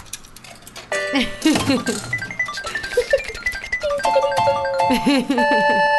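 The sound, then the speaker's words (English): A prize wheel spins, with a run of ticking clicks mixed with bright electronic chimes and ringing tones that rise and fall. Voices murmur faintly underneath. “would you like to spin the wheel for me?”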